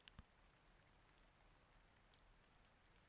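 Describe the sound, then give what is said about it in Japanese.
Soft, light rain pattering steadily, with a few sharper droplet taps scattered through a quiet, hushed background and a louder splash at the very end; a gentle rain falling while cherry blossoms are viewed, with warm, humid air. “桜を眺めながらポツポツと降る雨音と暖かで湿り気のある空気が頬を撫でて、”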